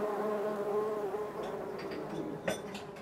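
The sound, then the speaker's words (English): A steady drone of honeybees buzzing as they forage among melon flowers, gathering nectar and pollen and pollinating the plants, the hum wavering in pitch as individual bees move about, with a brief louder flutter near the end. “gathering sugar-rich nectar and protein-rich pollen for their colonies back in the hives”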